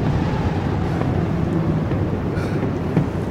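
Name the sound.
storm wind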